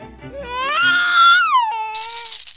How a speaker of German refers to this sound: Und dann ist das Baby da. Und laut.